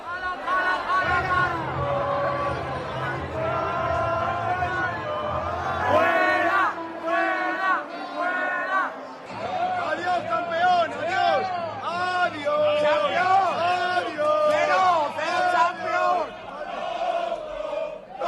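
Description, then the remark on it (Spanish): A loud stadium crowd shouts insults together, chanting "tonto, tonto" at Haaland's father as he and his companions are taken to another box, many voices overlapping in rough chanted bursts over a constant roar, with a deep rumble under the first few seconds. “Al grito de tonto, tonto, cuando se lo llevaban, porque se llevaban tanto al padre de Haaland como a los que le acompañaban, a otro palco,”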